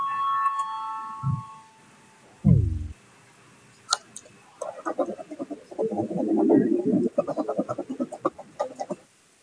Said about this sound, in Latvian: Lūdzu zvanu, balsosim par 54. Ministru kabineta priekšlikumu. Lūdzu balsosim.